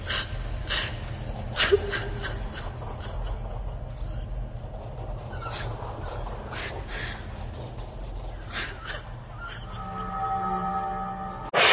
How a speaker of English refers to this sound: Okay, so you hear Charlie whimpering as she is having all of this stuff forced upon her as these two Cro-Men stand over and, for all intents and purposes, gloat and force her to take it.